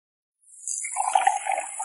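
A steady stream of water starts up after a brief silence and keeps flowing from a tap that a robot has fitted onto a pipe, a fairly loud hissing splash.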